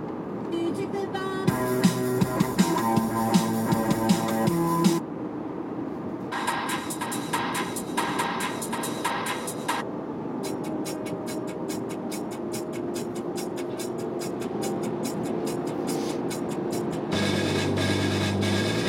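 Steady low rumble of road noise fills a car interior from start to finish, with short bursts of music from an iPod synced to the car playing over it at moderate volume.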